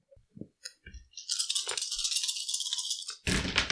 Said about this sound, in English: Ooh, dice everywhere.